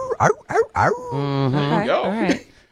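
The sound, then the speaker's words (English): A few quick, sharp yips are followed by a drawn-out, wavering howl that rises and falls in pitch, fairly loud, from a beagle baying. “Number 8 is a beagle. I've heard good things about beagles. I've never they're owned cute. One. They howl though.”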